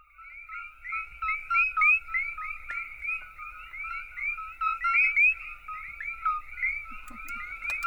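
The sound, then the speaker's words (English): A dense chorus of small Puerto Rican coqui frogs: countless high, chirping two-note calls overlapping in a steady, continuous din, with a faint low rumble underneath and no voices. “When I look at it, I just see a little frog, a noisy little frog.”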